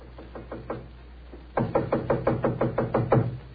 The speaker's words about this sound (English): It gave me a strange feeling as I raised my hand to knock on what once had been my own living room door.